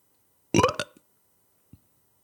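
A single loud burp produced on command, a short throaty belch lasting about half a second, followed after a brief pause by a faint low thump. No one speaks.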